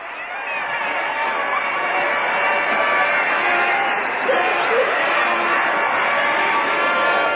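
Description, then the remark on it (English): A large crowd celebrating in a busy downtown street, a dense, steady roar of many overlapping voices and shouts that stays loud and unbroken throughout. “We'll let you listen to this crowd once more.”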